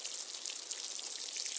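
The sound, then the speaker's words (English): A steady, soft splashing patter of water poured onto soil over freshly planted seeds, continuous, with a hissy, rain-like texture and no voices. “Next, they need some water.”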